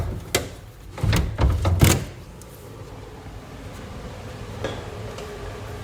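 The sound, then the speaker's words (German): A door of a long-unused, stuffy, dusty building is opened: a sharp click, a cluster of rattling latch and handle knocks, then quiet with faint ambient hum and one more soft knock. “Ich glaube, wir können die Tür auch noch aufmachen.”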